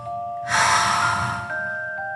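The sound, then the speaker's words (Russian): One long, deep, airy breath swells up and slowly fades out over about a second, fairly loud, above a soft sustained musical tone. “Он начал дышать глубоко и размеренно.”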